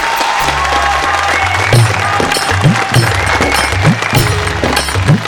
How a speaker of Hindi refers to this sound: आज आप लोग इतनी ताली बजा दो मेरे भाई कि ये गांव भी काशी और हरिद्वार हो जाए, काशी और हरिद्वार हो जाए।